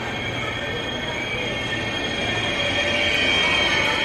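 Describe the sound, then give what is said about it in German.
An ICE train from Basel pulls into a station at platform 4, its wheels squealing in a steady high-pitched whine over a low rumble that grows slightly louder as it comes closer. No one speaks. “Auf Gleis 4 fährt ein der ICE aus Basel.”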